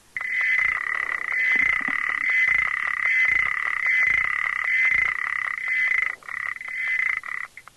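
A male frog's steady, high-pitched trill runs while a female frog's sharp ticks repeat roughly every second; toward the end the male's trill falters into broken bursts and fades, silenced by the female's ticking, which continues.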